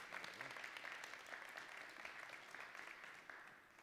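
crowd, applause

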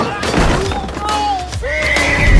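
animal, horse neighing

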